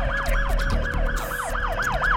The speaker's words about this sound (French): Nous aussi, on se déplace avec la police d'Alhambra. Attention, vous êtes surveillés comme un bruit qui court au son de la sirène de la police.